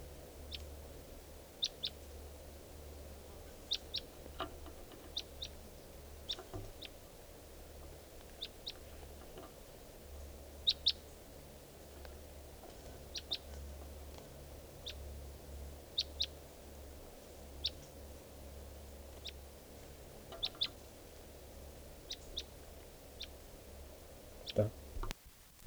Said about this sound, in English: We're recording at 3:10 p.m. and there's a wild bird here. And I think it could be the male who I missed before, the mate of this female.